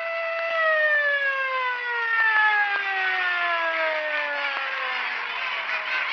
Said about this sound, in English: The siren moaned to still us, but there was no peace.